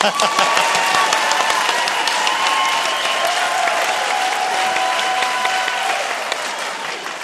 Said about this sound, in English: I would need you to applaud at this point.